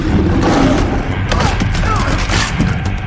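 Loud, rapid gunfire crackles in quick bursts across a dense, noisy background, with sharp shots landing close together throughout and a muffled voice faintly underneath.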